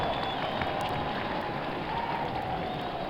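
A large crowd at the inauguration of the 35th President cheers and applauds in greeting and good wishes, a dense, steady roar of clapping that holds at an even loudness throughout, with no speech.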